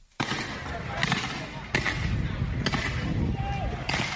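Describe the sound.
Scattered gunshots crack out about four times at irregular intervals, sharp, over a constant rumbling outdoor din with indistinct voices, near the headquarters of the opposition CDC party in Monrovia, Liberia, on a Thursday during a raid and skirmish with party supporters.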